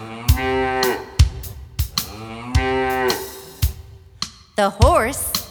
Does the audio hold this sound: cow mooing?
yes